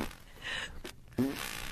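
A voice imitates a fart by pushing air into the cheeks: breathy, hissing bursts, then a short low buzzing raspberry partway through, trailing into more airy noise. Moderately loud, with no words spoken.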